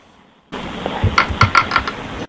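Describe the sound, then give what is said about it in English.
A dice-roll sound effect from an app: a short burst of rattling clicks, about five quick clacks over a steady soft hiss, fairly quiet and ending abruptly. “I'm going to roll the dice”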